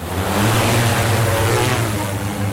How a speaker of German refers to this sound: startet die Drohne. Der Drohnenexperte sucht das Gelände nach den ausgelegten Wildschweinkadavern ab.